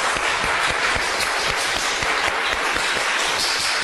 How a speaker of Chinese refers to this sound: 所以陈老师今天成功，要不要感谢台湾的陈妈妈？ 要。 给陈妈妈热烈掌声鼓励一下。